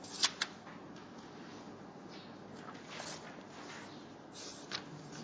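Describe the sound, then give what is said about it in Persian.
Soft paper rustling with a few crisp flicks near the start and another toward the end, as pages of a Quran are turned one after another. “شما هم توی ورق بزنید بیاید جلو قرآن رو نگاه کنید، چشمتون به قرآن بخوره.”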